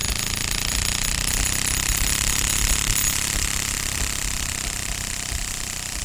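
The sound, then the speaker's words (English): A card clipped in a clothespin flaps rapidly, building a loud, continuous motorized rattle much like a lawnmower engine, steady for several seconds, with no voices. “And, you know, finally, as you really ramp up that card that's in the clothing pin, it makes almost sound like a lawnmower.”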